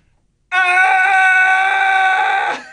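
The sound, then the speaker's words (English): A single loud, sustained yell held steadily for about two seconds after a brief silence, then trailing off; a person, moving away from the mic, imitates a teammate nicknamed Bulldog yelling while skating slowly into the corner. “Not all that fast, but the urgency is suddenly picked up when Bulldog does this, and I have to move away from the mic just to replicate this perfectly.”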